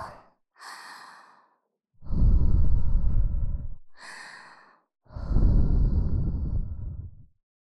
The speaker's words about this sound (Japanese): それじゃあ、最後に、ふーしましょうね。熱い吐息を。